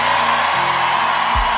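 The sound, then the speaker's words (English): An audience shouting together in a loud, sustained roar of many voices, dense and continuous with no clear words, filling the whole moment without pause. “What you shouting about?”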